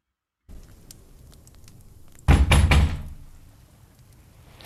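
Three loud, heavy knocks on a door land in quick succession after a couple of seconds of quiet hiss, then the stillness returns.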